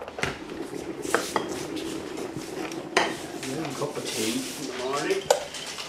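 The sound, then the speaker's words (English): Cups and crockery clink and knock against a table as four farmers gather and a kettle is boiled in a house just outside Ballymahon, County Longford, Ireland, with several sharp clatters over a steady background and faint voices murmuring. “The kettle is boiled in …'s house just outside Ballymahon in County Longford. Thank you. Is this your cup, man?”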